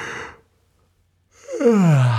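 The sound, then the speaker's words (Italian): A breathy intake is followed by a pause, then a loud, drawn-out voiced yawn, made to warm up the voice, whose pitch slides downward, clear with no talking over it. “O chi di voi ha fatto mai logopedia, saprà che qualsiasi logopedista ti consiglia subito di sbadigliare ad alta voce, di fare proprio un...”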